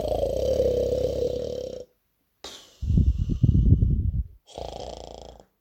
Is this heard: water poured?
no